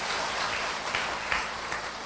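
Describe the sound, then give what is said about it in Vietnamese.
A crowd claps steadily for about two seconds, a dense, even patter of many hands at moderate loudness, with no voices over it. “Cho một tràng pháo tay chúc đại chúng.”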